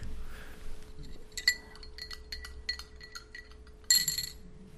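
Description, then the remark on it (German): Soil from a plant is spooned into a glass of water with a run of light, high-pitched glassy clinks and taps, then a brighter, louder clatter near the end. No one speaks. “Ich habe da jetzt ein bisschen Erde von meiner Pflanze da reingegeben, verschimmelte Löskaffee”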